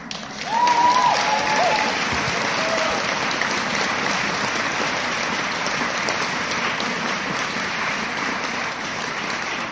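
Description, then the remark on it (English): An audience at a LunaFest event, asked to roar, bursts into loud, sustained applause with cheering. A few whoops rise early on, and the dense clapping holds steady and fairly loud throughout. “And can we hear you roar? They're out there. They heard you.”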